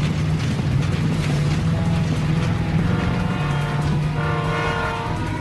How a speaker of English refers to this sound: Train. I see it. Train! I see it.